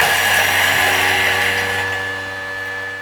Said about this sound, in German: Halt mal ganz kurz den Gedanken an, weil ich muss hier einmal den Thermomix anmachen. Ja. Sekunde. Und dann kannst du weiter erzählen. Ganz kleinen Moment. 3 Sekunden, Stufe 8. Okay. Wird kurz laut.